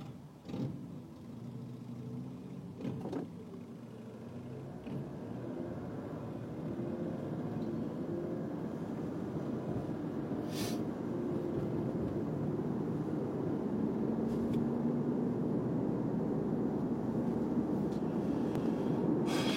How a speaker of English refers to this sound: guy's listening to the radio on his motorcycle.